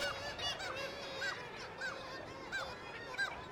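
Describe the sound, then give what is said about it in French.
A dense colony of kittiwakes and arctic terns calls nonstop at the foot of a glacier, with many overlapping shrill, squawking cries forming a loud, busy din throughout. No one speaks. “Quand il y a des nuées d'oiseaux, les mouettes tridactyles ou les sternes arctiques qui braillent, là on est dans le sonore plus.”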